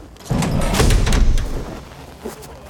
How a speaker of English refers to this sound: So you should hear a pretty loud rush of air when they open this door.